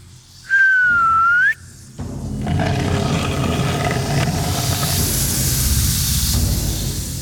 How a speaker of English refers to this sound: … whistled softly.